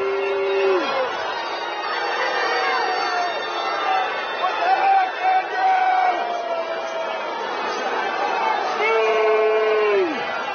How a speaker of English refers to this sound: Despite all that, the same guy was booed. The same guy who played through all that was booed off the field Saturday by many of his own fans.